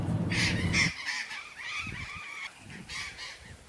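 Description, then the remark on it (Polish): A large flock of parrots squawks from the trees in the Cafayate valley in northern Argentina, harsh overlapping calls repeating without pause, fairly loud, with no one talking. “Proszę Państwa, tak brzmią papugi, które tutaj bardzo licznie obsiadają drzewa w dolinie Cafayate.”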